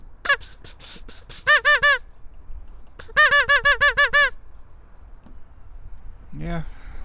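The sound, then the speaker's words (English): A goose honks back in response to a person's imitated quacks, in two quick bursts of repeated, nasal, loud calls with a short gap between them; a brief human voice sounds near the end. “A goose honked back at me.”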